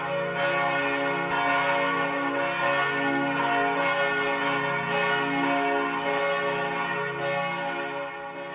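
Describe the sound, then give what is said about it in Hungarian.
Church bells peal loudly and continuously as a lord rides into Nedec castle, their overlapping metallic tones ringing together in a dense, sustained wash throughout, with no voices. “Nagy harangzúgás közt vonult be Pongrácz István a Nedeci várba”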